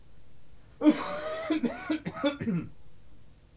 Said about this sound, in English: I heard someone cough. I can hear someone coughing.